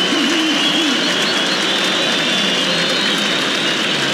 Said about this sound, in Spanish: Aplausos para Rojas, ovación para Marcelo Díaz